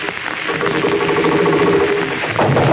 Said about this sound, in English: That's supposed to be a sewing machine, folks. Last week, we used it for an automobile.